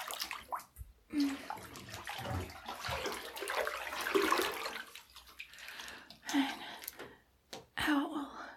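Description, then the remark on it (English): Water drips and splashes into a filled bathtub, fairly quiet, with soft sloshing between scattered drops and occasional breathy vocal sounds but no clear speech. “Eventually start dripping on me, dripping into the water, dripping on me, and then I just rub it into my skin.”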